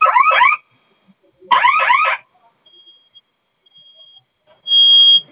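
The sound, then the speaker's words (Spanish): A fire alarm blares in loud, warbling electronic bursts: two rapid sweeping sequences separated by a pause, then a thin steady tone and a final harsh, buzzy blast. “Ya se apagó. Pero la de fuego sigue sonando.”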